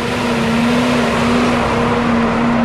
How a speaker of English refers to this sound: A feed truck rolls by, dumping feed into the bunks at the Van Housen feedlot in Nebraska. They mix 22 loads a day, nearly 200 tons of feed.